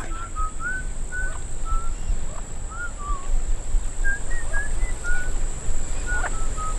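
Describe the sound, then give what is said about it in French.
An elaborate sequence of short whistled notes, rising and falling in varied phrases, coming from the interior of an island, over a steady outdoor rumble and a constant high-pitched drone. “Et vous entendez cette voix? Oui, c'est sifflement. C'est peut-être un oiseau. Ça m'étonnerait. Trop élaboré.”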